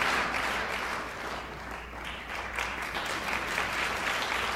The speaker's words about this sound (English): Quit your clapping. Can't be a bit preacher clapping.